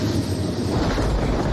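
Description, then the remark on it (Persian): A loud, steady low rumble of a helicopter flying overhead above the city, its engine and rotor noise continuous and heavy throughout, with no voices. “اون به ما بی توجه، اما به هلیکوپتر نه.”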